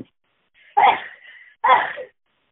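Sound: cough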